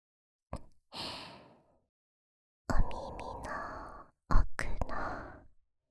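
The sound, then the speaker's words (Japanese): Soft, airy, lukewarm breaths of a high-school girl very close to the microphone, three slow exhalations with short pauses between them, warm and hushed with no words spoken. “生温かい JK の吐息をずーっと感じさせてあげます。”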